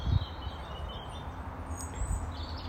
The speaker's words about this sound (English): I'm in a garden right now and I can hear birds. Many different types of birds, so you will probably hear them as well. So what can you hear, as well as what's coming out of your speakers, my voice and the birds, but also what's in your space?